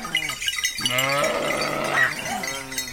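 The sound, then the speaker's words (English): A flock of sheep bleating as a shepherd drives them down marbled hillsides on a mountain near the village of Carrera, on Italy's Tuscan coast; several wavering, nasal cries overlapping one after another, loud and continuous with no talking. “Near the village of Carrera, Stephen Feld found a shepherd driving his flock down marbled hillsides to the sound of bells from the village church.”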